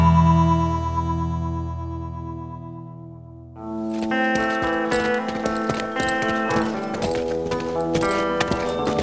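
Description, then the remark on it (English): A sustained musical drone gives way to steady horse hooves clip-clopping in a regular rhythm, fairly loud, as Matt Jensen brings his horse to a stop, with music continuing underneath the hoofbeats. “Matt Jensen brought his horse to a stop and smiled.”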